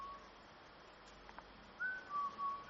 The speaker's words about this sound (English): You have fun out here in the dark, walking around whistling like an axe murderer